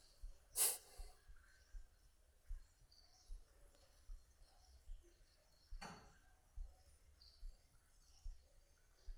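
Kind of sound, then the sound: human body sound, breathing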